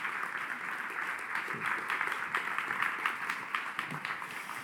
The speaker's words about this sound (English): I want you to give her a big clap as she goes down.